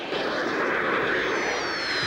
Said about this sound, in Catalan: La Bulma, en Yamcha, l'Oolong i en Puer s'enfilen a l'avioneta.